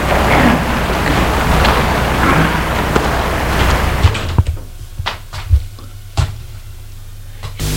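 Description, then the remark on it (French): A steady wash of cascading water from an indoor waterfall in the winter garden of a luxurious, ultra-modern building's entrance hall on avenue de l'Opéra fills the first half, then drops away to a quieter stretch with a low hum and a few scattered thumps and knocks. “Hall d'entrée, avec un véritable jardin d'hiver, avec cascade.”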